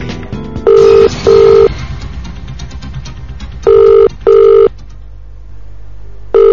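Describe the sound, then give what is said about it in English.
A phone line rings with a steady double-pulse ringback tone, two short buzzes, a pause, then two more, repeating clearly over a faint background hiss with no one speaking. “45 minutes for this call.”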